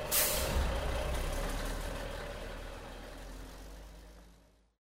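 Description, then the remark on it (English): Forklift trucks moving pallets: a sharp hiss of air bursts out at the start, then a steady engine rumble with a faint whine carries on before tapering away. “What's that sound? Forklift trucks. We're moving some pallets.”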